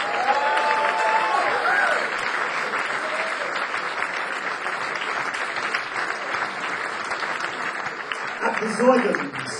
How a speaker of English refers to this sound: And I'd like an applause for unser Bassist here, the great … on bass.